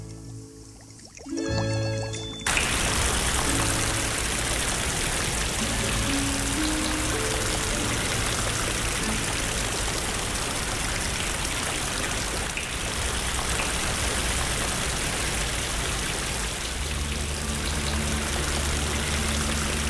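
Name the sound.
rain falling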